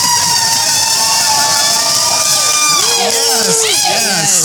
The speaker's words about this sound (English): This is our first live taping of Dating Humans. Yes, yes, yes. You hear everybody in the background. Here for it. We have a nice crowd. It's like, what? We do. 300 or 400 people in here.